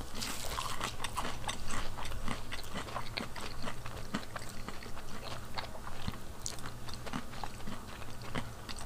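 Someone bites into a fried chicken nugget, said to look like a Tyson nugget, and chews steadily, with repeated crisp, crunchy mouth sounds over a low steady hum, no talking.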